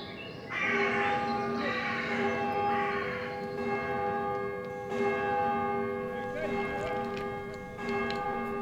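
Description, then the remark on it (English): A church bell rings repeatedly, each strike blooming into long, humming overtones that overlap and sustain, heard at moderate volume over a steady outdoor background hiss. “I love the bell.”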